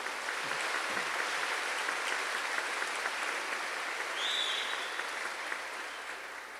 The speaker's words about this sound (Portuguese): Uma salva de palmas para nossa Igreja.